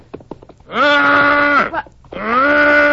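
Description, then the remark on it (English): A man's voice imitates a lost calf's bawl with two long, loud moaning calls, each rising then holding a steady pitch, separated by a short pause, preceded by a few soft clicks. “It was just a kind of a call of a lost calf.”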